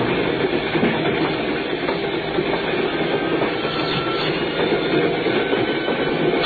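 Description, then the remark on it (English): A train rolls along the tracks through the station at Soda Springs, slowing down without stopping, a continuous rumble with a faint clickety-clack of the wheels running underneath, holding at an even loudness with no voices. “Then we reached Soda Springs and the train slowed down.”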